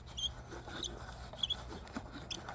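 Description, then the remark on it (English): A music box cranked slowly: faint, irregular ticking of small gears with thin, high-pitched squeaks from the crank popping out here and there over a low steady hum. “You can actually, like, really hear the little gears turning and the little, like, squeak from the crank.”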